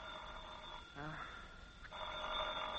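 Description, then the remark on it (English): An old telephone rings in two bursts of steady, buzzing bell tone, with a brief pause between them and a short stretch of voice-like sound in the gap. “Well, that's probably the phone company to say they're cutting off the service.”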